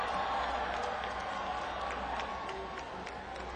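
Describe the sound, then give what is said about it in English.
A big festival crowd screams and cheers as the performer walks on stage, a steady, dense roar that fills the whole stretch, with scattered sharp claps poking through the wash of voices. “I seriously have never heard a crowd scream like that when I walk on stage.”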